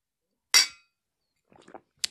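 Glasses clink together in a toast: one bright, ringing clink that quickly fades, a few soft rustles, then a second, sharper clink, with no talking.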